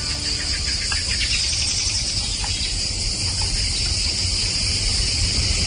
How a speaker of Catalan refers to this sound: Mira, t'ubicaria l'hora, perquè això dels grills deu ser tirant cap al tard. Correcte. Però el lloc ja més impossible. Mira, és una posta de sol, concretament al Parc del Montnegre. Així sona la posta de sol en aquest parc del Montnegre.